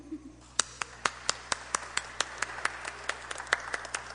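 A group of children clapping in applause, the claps falling in a quick, steady rhythm, sounding fairly soft overall.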